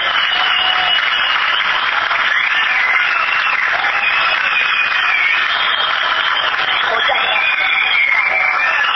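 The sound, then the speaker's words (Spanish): An audience claps steadily for about nine seconds, a dense, even wash of applause that stays loud throughout, with a few voices faintly mixed in. The sound is thin and somewhat muffled. “Muchas gracias a todos, vimos que es el trabajo de todos y entonces el aplauso de este obviamente fue para ustedes.”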